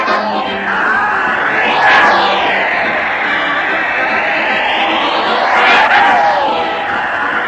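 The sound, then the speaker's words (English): A large crowd roars and cheers Fred Allen as he heads his weekly parade to the old Town Hall, a dense, loud wash of voices that swells slightly in places and holds steady throughout, with no single speaker standing out. “Listen to that crowd cheer Fred Allen as he heads his weekly parade to the old Town Hall.”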